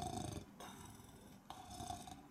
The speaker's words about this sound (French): Dans le pré, le loup était couché sous l'arbre et ronflait à en faire trembler les branches.